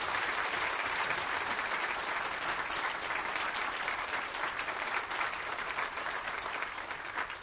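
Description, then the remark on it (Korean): A crowd claps steadily for the children and students, from the youngest department to the high school department, a dense wash of many hands at even loudness throughout, with no voices over it. “오늘 영화부에서부터 고등부에 이르기까지 많은 어린이들, 학생들, 우리 사랑하는 자녀들, 손자, 손녀들이 수고했는데 우리 그 자녀들 위해서 박수 한번 쳐주시기 바랍니다.”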